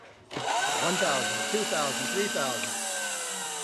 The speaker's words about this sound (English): Add 1/4 cup of crushed ice. And then you put it in a blender for up to 3 seconds, and you flash blend.